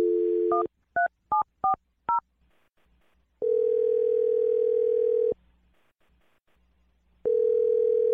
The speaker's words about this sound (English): Okay, I'm going to dial Jake's phone number right now. Here we go.